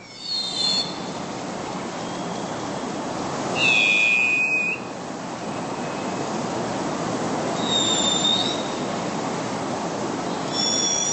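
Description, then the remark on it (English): An unidentified bird gives a high, thin whistled call about four times, a few seconds apart, the strongest one in the middle, over a steady rushing background noise, heard in the morning near Agate Pass on the Kitsap Peninsula. “So Andrew is hoping you can help solve the mystery of what bird is making that call.”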